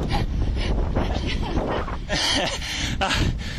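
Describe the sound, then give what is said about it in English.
Heavy, labored breathing from a cyclist climbing toward the switchbacks on the Donut Ride, about a quarter mile out, rough gasping breaths buried in a constant roar of wind buffeting the microphone, with faint voice-like sounds mixed in. “And there's some heavy breathing.”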